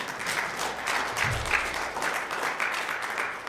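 A crowd applauds steadily, the dense patter of many hands clapping filling the space at a fairly even level for a few seconds, with no one speaking over it.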